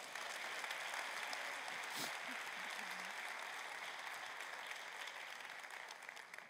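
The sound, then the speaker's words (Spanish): A crowd at a religious sermon applauds Christ steadily for several seconds, a dense wash of clapping that holds its level throughout, with a faint voice or two briefly audible beneath it. “Un aplauso a Cristo.”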